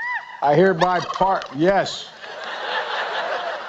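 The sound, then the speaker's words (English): A turkey gobbles loudly, a rapid run of warbling, bubbling calls lasting over a second, then fades into a softer wash of background noise; one of two turkeys, Chocolate and Chip, pardoned by President Biden at the White House. “President Biden today's pardoned two turkeys.”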